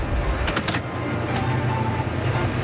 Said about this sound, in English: right now we are at The Yard in Phoenix, and we are just valeting cars that come in. Hi, how are you? We greet the guest, open the door. Have a good time in there. And then get in the car and park it.